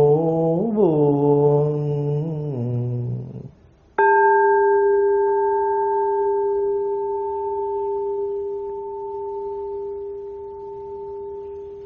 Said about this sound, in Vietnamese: Nguyện tiếng chuông này vang pháp giới, xa xôi tâm tôi cũng